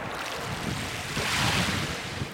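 Sea water churns and swirls against rocks in a steady, broad wash of surf, with some wind noise buffeting the microphone and no voices.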